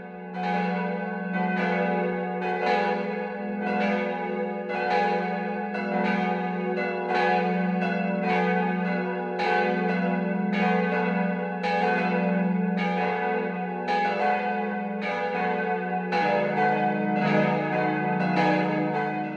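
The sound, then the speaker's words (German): Church bells of the Catholic parish church St. Michael in Winzer, Swabia, ring the full 12 o'clock midday peal, several bells striking in a steady overlapping rhythm with rich, sustained resonance, loud and continuous throughout with no voices. “Das Mittagsläuten kommt heute von der katholischen Pfarrkirche St. Michael im schwäbischen Winzer.”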